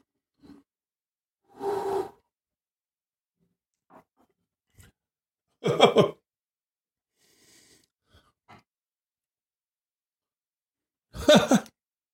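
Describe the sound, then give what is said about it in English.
Three short slurping sips of tequila, a little sip of each batch in order, spaced several seconds apart, with faint lip smacks and small clicks of glass in between. No one speaks. “So what I did is a little sip of each one in order.”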